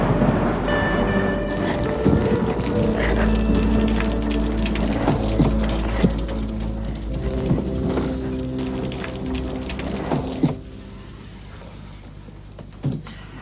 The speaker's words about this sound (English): It's got the rain, huh?